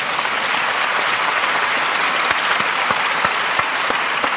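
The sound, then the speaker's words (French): Sustained applause from an audience welcoming magician Raphaël Navarro, a dense steady wash of clapping hands filling the whole stretch at a fairly loud, even level, with a few sharper individual claps standing out. “Voilà, Raphaël Navarro, vous pouvez Bonsoir. L'applaudir.”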